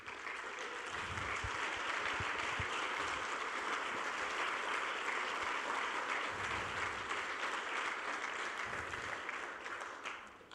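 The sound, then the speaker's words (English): A crowd breaks into sustained, steady applause for guests from Milk and Honey Ministry, honouring 25 years of ministry, a dense wash of clapping that holds at full strength for about ten seconds before beginning to taper off at the end. “And I want you to give them a round of applause for 25 years of ministry.”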